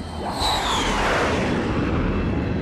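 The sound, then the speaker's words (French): A series of Israeli fighter jets roar loudly across the sky over Tehran at 9:40 in the morning, local time, on Saturday, 28 February, in a steady, rushing wall of noise, a high whine sliding downward in pitch as they sweep past, with no voices present. “Samedi 28 février, il est 9h40 du matin, heure locale, quand soudain, une série d'avions de chasse fendent le ciel.”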